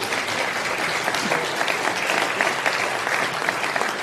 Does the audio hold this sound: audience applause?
yes